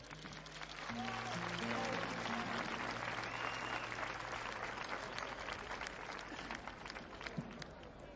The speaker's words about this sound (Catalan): un aplaudiment.